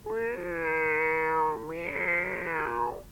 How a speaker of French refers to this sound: Dans un demi-sommeil, il crut percevoir le miaulement lugubre d'un chat.